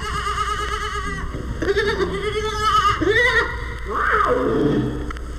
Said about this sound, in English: These baby domestic goats.